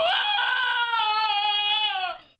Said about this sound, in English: And then can you play the – this is a dog? This is Cody the dog screaming. He was famous not too long ago, but he broke the internet too.